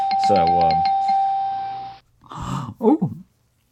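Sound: doorbell ringing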